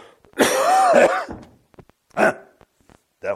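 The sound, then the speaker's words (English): A harsh, drawn-out cough with throat clearing in an audience, followed after a pause by two shorter, separate coughs. Fairly loud, with no talking. “I heard a lot of other coughing going on here.”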